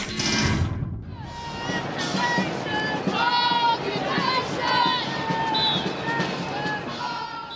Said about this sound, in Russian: Это вот мы слышим, как мимо нашего здания BBC в центре Лондона проходят толпы студентов, которые приехали со всех концов Великобритании. Студенты протестуют против планов правительства разрешить университетам брать с учащихся